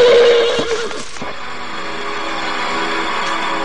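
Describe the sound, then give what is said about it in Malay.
A horse gives a loud, shrill whinny that wavers and falls off after about a second, followed by a lingering wash of background noise with no speech; the horse refuses to move from its place. “Tetapi kuda sakti yang sangat penurut itu tiba-tiba saja membuat ulah dan tidak mau beranjak dari tempatnya.”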